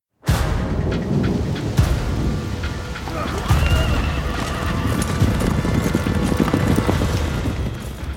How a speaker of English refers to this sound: He was dressed in a full suit of armor and seated on a massive horse, charging at full gallop through wet grass.